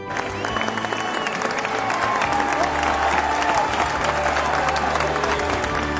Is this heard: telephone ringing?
no